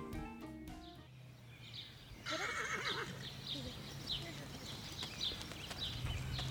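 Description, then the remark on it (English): A horse whinnies with a shaky, rising call over a steady outdoor din, while hooves clip-clop faintly in the background and a few high chirps come through. “The grounds of Churchill Downs will be alive with a sea of spectators and stables full of horses tomorrow for the annual running of the Kentucky Derby.”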